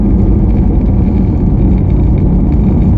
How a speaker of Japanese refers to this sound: そうですね、 なってるんだろうななんかちょっと聞こえますけど、 なんかいろいろと混ざっちゃいますね、ロードノイズとエンジン。